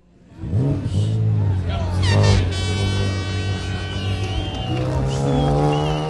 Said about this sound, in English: One by one, the race vehicles cross the starting line in front of the Mosteiro do Jerônimos.